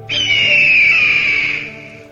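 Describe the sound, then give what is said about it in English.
A red-tailed hawk's screech: one long, raspy, high-pitched, loud cry, sliding slightly downward in pitch before trailing off, with no other sounds around it. “Perhaps the most recognizable is the screech of the red-tailed hawk.”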